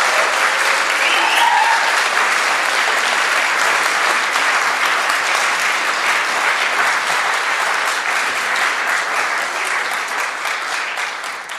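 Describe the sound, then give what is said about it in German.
A crowd claps warmly and steadily to welcome four invited guests to the front, a dense wash of many hands that stays loud throughout and eases off only slightly toward the end, with no voices standing out. “Und ich bitte Sie mal mit einem warmen Applaus hier vorne willkommen zu heißen.”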